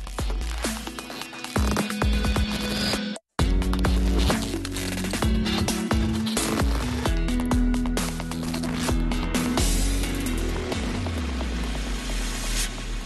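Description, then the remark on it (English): Dense, glitchy electronic music made with the software Break Tweaker, full of crackling static bursts, stuttering cuts and a sustained low hum, with a brief hard dropout to silence near the start, played loud and continuous with no voices. “And it allowed me to actualize all of the very kind of, it almost sounds like organized static.”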